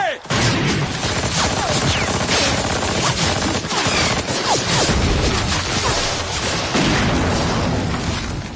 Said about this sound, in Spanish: Entonces llegan las batallas, los disparos, las heridas y, por desgracia, los muertos.